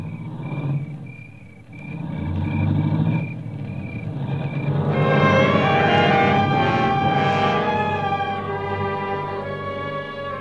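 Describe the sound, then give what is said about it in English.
A car's low engine rumble pulls away, with a steady series of high beeps over it, before a loud, sustained tonal swell takes over. No one speaks. “I heard the car leave, and I knew what it meant.”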